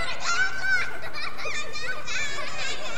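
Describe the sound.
A voice imitates a baby singing a repetitive, wordless little tune while banging on a pot with a wooden spoon, producing continuous high-pitched, babbling vocal sounds with steady energy throughout.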